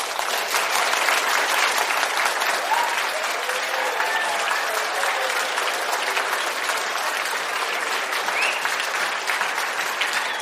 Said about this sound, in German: Wir haben den Applaus vernommen.